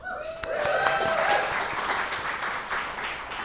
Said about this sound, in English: I want you to come and introduce me everywhere I go. I like having applause to start.